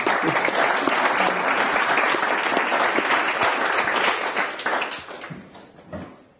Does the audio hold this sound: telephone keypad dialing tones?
no